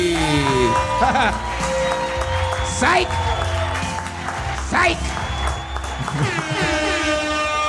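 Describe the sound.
Steady, loud applause from a crowd welcoming a newly joined member fills the whole clip, mixed with rising whoops and cheers, while voices talk over the clapping.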